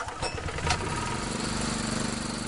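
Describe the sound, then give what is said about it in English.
A small gray air compressor, used by a mussel shell diver on a skiff adrift on the Tennessee River at Kentucky Lake, catches after quick pull-cord starts, a brief burst of louder revving giving way to a steady, low, rattling idle hum with no voices. “starts his work day with quick pulls on his small gray air compressor.”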